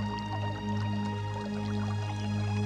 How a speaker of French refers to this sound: Le clapotis d'un ruisseau tranquille.